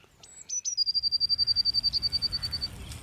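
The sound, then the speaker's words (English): A blue tit calls: a couple of thin, high introductory notes, then a long, rapid, evenly pulsed trill lasting about two seconds, heard clearly over a faint low background rumble. “The blue tit, the Scottish parrot.”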